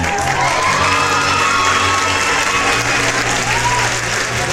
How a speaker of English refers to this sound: Please be standing and give a round of applause for Rachel, the Dragon Lady.